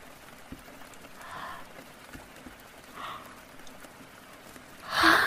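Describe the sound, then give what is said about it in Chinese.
A breathy yawn swells up at the end after a couple of softer breaths, finishing in a loud airy exhale against a quiet background. “没有，就打哈欠，没有睡着。”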